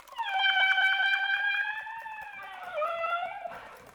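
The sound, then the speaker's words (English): A sustained flute tone with soft, rapid key clicks pattering beneath it, the flute's keys used to imitate rainforest sounds; the pitch dips slightly near the end before a breathy burst. “For example, this sort of thing, using the keys of the flute. And then I would create something from the rainforest.”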